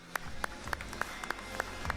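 A crowd at a live gaming match claps in a steady, even rhythm, seven sharp beats in two seconds, over a dense wash of crowd noise, cheering as a real-time strategy player is introduced on stage.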